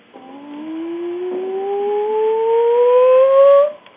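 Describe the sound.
One sustained vocal tone glides smoothly and steadily upward in pitch for about three and a half seconds, fairly loud and rich in overtones, then cuts off abruptly.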